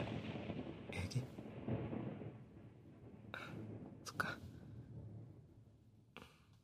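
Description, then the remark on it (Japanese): A low, continuous rumble of distant thunder, gradually moving farther away, rolls through the whole stretch, fairly quiet, with a few brief breathy hisses rising over it now and then. “そう、まあ少しずつ雷も遠のいているから平気かな。”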